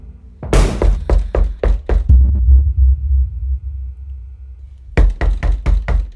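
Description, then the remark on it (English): Loud, heavy pounding on a door: a rapid burst of forceful knocks, a pause with a low rumble, then another hard series of booming bangs. “More pounding at the door.”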